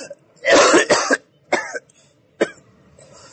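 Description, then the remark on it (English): A person with a dry throat coughs: a harsh, rapid burst of coughs, followed by two shorter, separate coughs after brief pauses, with no talking. “Now you're coughing too”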